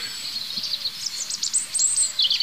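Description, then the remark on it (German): Birds singing steadily, with a dense layer of high, thin chirps and trills plus a few softer, lower whistled calls repeating every half second or so. No one speaks. “Was ich jetzt gar nicht so schlecht finde, weil ihr sollt ja eigentlich die Vögel hören.”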